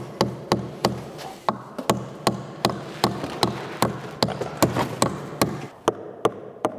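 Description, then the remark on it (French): Steady hammering on wood with a big hammer: around twenty sharp, evenly spaced blows in quick succession, fairly loud, with no talking over them. “T'as le marteau, Eric ?”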